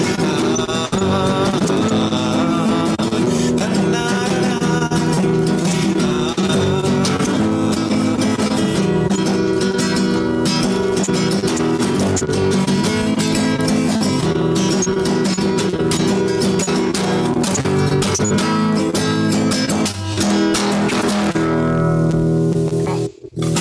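A Russian rock song plays continuously at full volume, with driving distorted guitars, steady drums and dense layered harmonics throughout, ending abruptly near the close.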